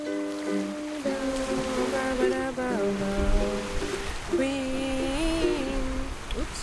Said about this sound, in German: Ich liege in der Sonne und wiege mich im Takt des Bootes in den Wellen. Die Segel wehen leicht in einer gleichmäßigen Brise, die mich vergessen lässt, dass es über 30 Grad warm ist.